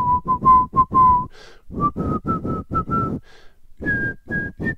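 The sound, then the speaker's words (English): A man walking down a street whistles a simple, bouncy nursery-rhyme melody, short clear notes falling in steady phrases that climb in pitch, with a breathy low rumble beneath and no talking. “The farmer in the dell. He doesn't sing the last part. He whistles the whole time.”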